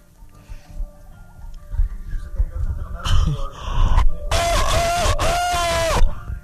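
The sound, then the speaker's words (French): A person loudly imitates a rooster crowing as an entry in a rooster-crowing imitation contest, a single long, strained cry with a rising and falling pitch near the end, preceded by a brief breathy burst over some low background noise. “Le bruit du coq.”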